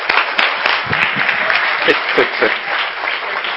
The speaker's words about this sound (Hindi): fantastic, very good, सब जोर से तालियां बजाए